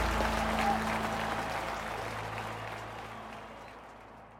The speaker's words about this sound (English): The crowd cheers as Ulysses walks straight to his wife, Julia.